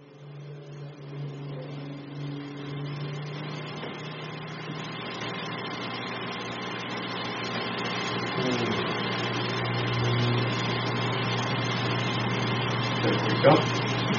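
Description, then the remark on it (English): An air conditioner drones steadily for the whole stretch, an even mechanical hum with a low tonal buzz, broken only by a brief clunk near the end. “I'm going to check that air conditioner.”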